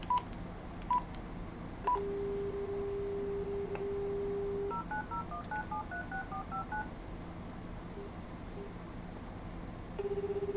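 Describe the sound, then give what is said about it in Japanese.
Telephone dialing on a slide-type mobile phone: a few short beeps, then a steady dial tone, followed by a rapid run of paired keypad tones pressed in quick succession, with a tone returning at the end. “で電話をかけます。”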